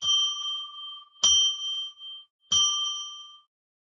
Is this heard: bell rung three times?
yes